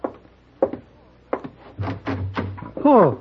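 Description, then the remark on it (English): A door is opened: a couple of sharp latch clicks and rattles, then a low creaking swing, with a voice briefly audible at the end. “No, can't open door, Mr.”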